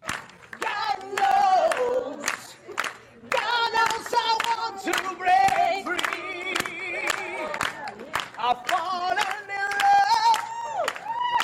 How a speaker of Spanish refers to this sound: El público presente aplaudió, hizo coros y en minutos ese video que acaban de ver estaba en todas partes.